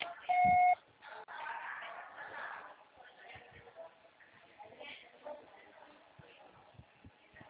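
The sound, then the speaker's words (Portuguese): A single short, loud voicemail beep signalling the caller to record a message, a steady mid-pitched tone lasting about half a second, followed by quiet muffled background noise and faint indistinct voices. “Grave seu recado agora.”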